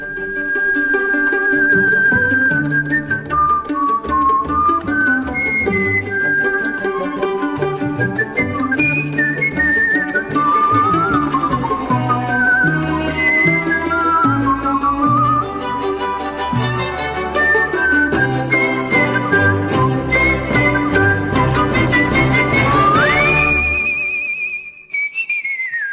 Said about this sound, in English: I just don't hear people whistling as much anymore in general, and definitely not in performance. You've, of course, got that amazing, the Whistling Caruso that you did from the Muppets movie back in 2011. I mean, just listen to this for a second.